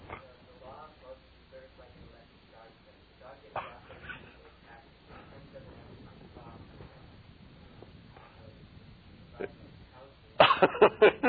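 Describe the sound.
A quick run of loud, sharp dog barks bursts out near the end, following a stretch of quiet, muffled voices and room noise.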